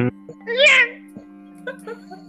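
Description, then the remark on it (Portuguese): A voice mimics a revving electric chainsaw, likened to Leatherface's chainsaw: a strained, whining burst that rises and falls, then a few shorter squeaky yelps, over a steady low electrical hum. “Tá parecendo um gato possuído na telha do telhado. É uma serra elétrica, é a serra do Leatherface.”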